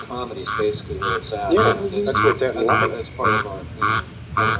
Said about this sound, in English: April 13th, Georgia. A much smaller and more slender species is the squirrel tree frog, Phyllis gorilla, found from Virginia to Texas. A southern toad calls in the background. This was recorded in the same pond with the preceding species.